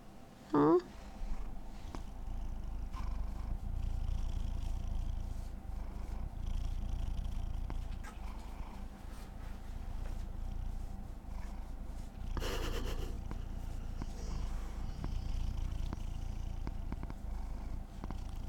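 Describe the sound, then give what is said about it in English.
A cat purrs steadily in front of a microphone, a continuous low rumbling drone that lasts throughout, with brief rustling bursts near the start and midway. “You are the silliest little kitty.”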